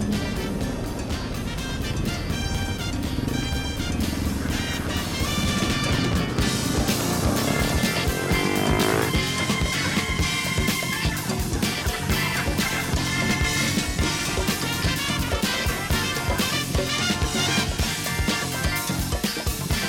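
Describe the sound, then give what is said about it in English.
A steady, dense roar of busy four-lane city road traffic with a bus, a lone cyclist, taxis, minicabs and all kinds of vehicles, engines rumbling and droning without a break, loud and continuous throughout, with no clear speech. “Well, here we are in four lanes of motor traffic, bus to the left, lone cyclist ahead, taxis, minicabs, all kinds of vehicles.”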